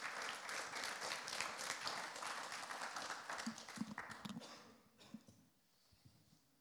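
A crowd applauds with dense, steady clapping for about four seconds, then it thins into a few scattered claps and fades to quiet.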